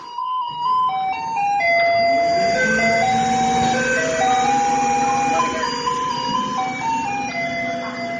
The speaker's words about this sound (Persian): در تایوان فور الیز یکی از آهنگایی که از کامیونای زباله پخش میشه که به مردم خبر بده بیان پایین زباله‌هاشون رو تحویل بدن.